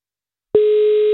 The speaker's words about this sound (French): Première sonnerie. La deuxième.